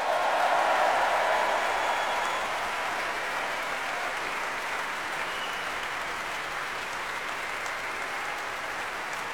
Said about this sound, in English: And let's give a special round of applause for tonight's performers, our soloists Nicola Benedetti and Joseph Kalecki.